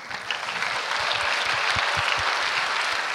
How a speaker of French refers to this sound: On va prendre une minute d'applaudissement pour toutes ces personnes qu'on a remerciées et à vous tous d'être venus, s'il vous plaît.